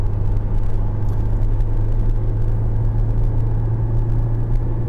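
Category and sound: vehicle, car driving slowly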